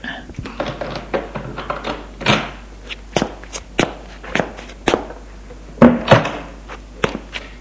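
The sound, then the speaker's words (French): A steady series of footsteps on a hard floor, a dozen or so evenly paced thuds that grow somewhat louder toward the end as a woman walks toward her husband seated at his desk. “Sa femme s'approche.”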